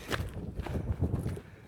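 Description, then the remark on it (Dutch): Footsteps crunch along outdoors at an unhurried walking pace as someone walks uphill toward the top of a mountain, several moderately loud steps, with a low rumble of wind underneath and no one talking. “We lopen nu naar de top van de berg.”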